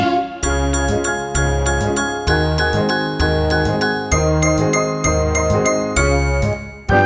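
Piano black keys played in a steady sequence of bright, ringing notes and chords that change roughly every half second, loud and continuous, with no talking.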